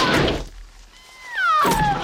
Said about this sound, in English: He runs at the door and kicks at it.